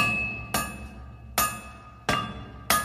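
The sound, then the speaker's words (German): Four sharp metallic clinks of broken sword pieces striking each other as a dwarf tries to piece the fragments back together, each ringing briefly before fading, spaced about a second apart, with no voices. “Er versuchte, die Trümmer eines zerbrochenen Schwertes wieder zusammenzusetzen.”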